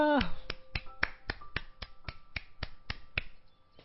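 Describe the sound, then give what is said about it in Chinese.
A group claps together in a steady, brisk rhythm, about a dozen sharp beats in a row, with a faint sustained tone underneath and no talking, giving applause to Jesus at an evening worship gathering on the third day of Chinese New Year. “我们把掌声、荣耀都归给耶稣，好不好？”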